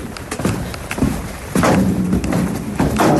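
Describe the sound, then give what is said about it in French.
Footsteps going down stairs: a run of heavy, uneven thuds and scuffs, fairly loud, with a few sharper knocks and no voices over them. “Donc là, on descend des escaliers.”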